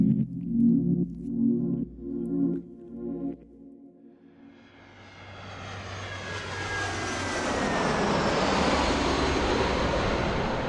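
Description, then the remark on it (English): A few low, pulsing tones fade out, and the broad roar of an airplane engine in flight, a plane bound for Thailand, swells up and holds loud and steady to the end. No one speaks. “So before Jakob can meet with the buyers, Amaryllis gets on a plane for Thailand to intercept him.”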